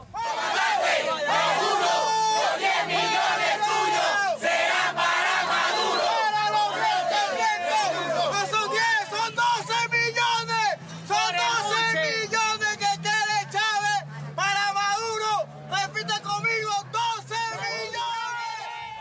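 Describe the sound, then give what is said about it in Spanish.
A huge crowd chants loudly in unison at the funeral of Chávez, many voices rising and falling in a steady rhythmic cadence, sustained without pause for the whole stretch, with occasional louder shouted bursts. “Este audio es de su funeral.”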